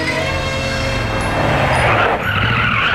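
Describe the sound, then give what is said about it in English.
A loud muscle car engine, identified as a '70 RS SS with a 450, rumbles as tires screech and skid along the pavement, the squeal swelling and briefly dipping before roaring on over the steady low engine drone. “Hey, what are you running there, pal? It looks to me as though it would be a 70 RSSS with a 450 Bolt.”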